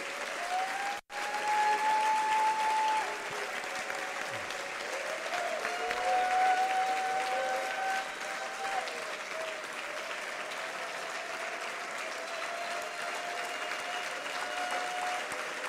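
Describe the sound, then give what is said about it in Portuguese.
An audience applauds the Lord during worship in a steady, dense wash of clapping that runs unbroken for about fifteen seconds, with a few sustained tones ringing faintly beneath it. “Aplauda o Senhor.”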